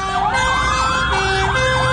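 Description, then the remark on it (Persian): Fire engine sirens wail over one another, their pitches sweeping up and down in overlapping cycles, loud against a steady rumble of road traffic, as fire engines head toward Evin Prison. “اینجا خودروهای آتش نشانی به سمت زندان اوین میروند.”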